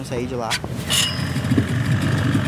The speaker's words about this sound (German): Im Motorboot geht es über den Fluss, der längst zur Lagune geworden ist, in die Fischersiedlung Ilha da Pintada.